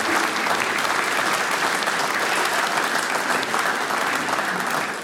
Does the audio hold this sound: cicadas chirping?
no